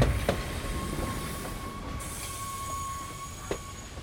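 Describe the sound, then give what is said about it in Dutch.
A transport train on its way to Sobibor rumbles steadily along the rails with a low, continuous roar, a faint high squeal of wheels running throughout and occasional sharp clacks from the track. “Intussen is het vijfde transport al onderweg naar Sobibor. En aan boord van die trein is het meisje dat wij zoeken”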